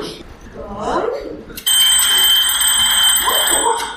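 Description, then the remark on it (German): A clock rings loud, bursting in suddenly after soft talking and then shrilling steadily to the end, with a voice murmuring beneath the ringing. “Das Kaninchen wird vom Klingeln der Uhr aufgeschreckt.”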